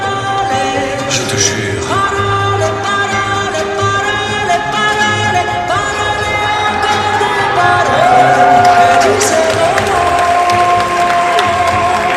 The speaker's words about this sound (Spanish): El Ballet Nacional de Marsella recibió en Guanajuato un largo aplauso, tras lo cual se realizó una charla con el público.